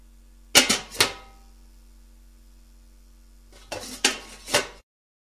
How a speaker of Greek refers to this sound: Κουτάλες.